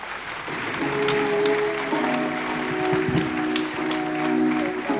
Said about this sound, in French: Bonsoir Poupée, vous allez bien ? On vous a entendu crier, on vous a vu taper dans les mains et tout, ça fait hyper plaisir.